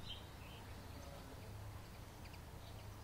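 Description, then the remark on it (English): A few faint bird chirps come and go in the background over a steady low hum, with short high tweets near the start and again toward the end. “Do you hear the bird, maybe, in the background?”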